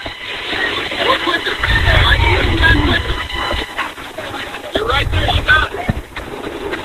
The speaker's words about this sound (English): Hear the beeping? Yeah. The horn.